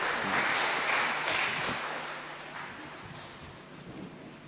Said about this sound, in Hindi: हम सभी तालियों के द्वारा दीदी को विदाई देंगे और विदेश यात्रा की बधाई भी देंगे।